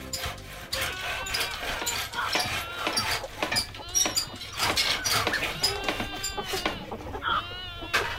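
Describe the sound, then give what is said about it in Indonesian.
Newborn baby goats bleat repeatedly in high, wavering cries, several overlapping calls, with faint barnyard background noise throughout. “Kamu dengar tidak? Ada suara anak kambing.”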